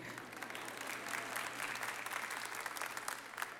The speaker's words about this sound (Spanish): Aquí las mujeres aplauden.